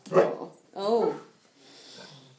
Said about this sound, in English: Oh, my God, a bark.